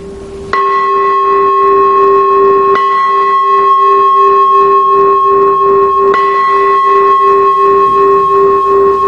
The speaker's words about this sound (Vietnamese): Và nếu mà là chuông tụng kinh, vô chuông mỏ để vô thời kinh, thì tiếng chuông sẽ là như thế này.